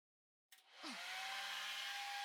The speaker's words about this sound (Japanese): それじゃあドライヤーしていくから、そのまま普通に座ってて。